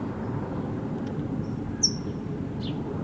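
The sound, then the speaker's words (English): A brown towhee banded red, yellow, green gives one sharp, high chip note over a steady low rumbling background, followed by a fainter, brief call a moment later. No one speaks. “Yes, red, yellow, green is the towhee that's chipping.”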